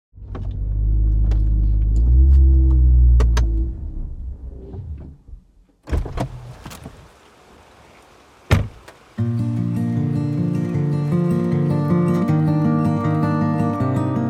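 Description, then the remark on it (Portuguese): A car engine idles with a deep, steady rumble for several seconds as a man parks his car, then cuts off, followed by a few sharp door clunks and clicks before a sustained tonal passage takes over. “Paulo estacionou seu carro e subiu para a reunião.”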